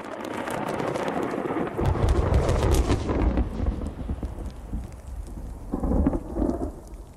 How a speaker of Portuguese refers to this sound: Mas o que eu amo são raios e trovões.